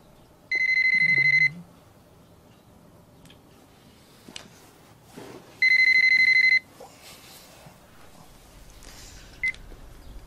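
A telephone rings twice in electronic trilling bursts, each about a second long with a pause between, fairly loud against faint background noise.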